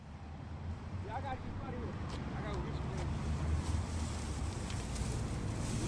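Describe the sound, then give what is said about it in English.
A steady, dense roar of cars passing on a city street at a small intersection island between three streets near downtown Oakland at 9 o'clock in the morning fills the scene without letup, with faint indistinct voices and a few high chirps drifting over the traffic wash. “cleaning up this street he calls home, while cars flood past.”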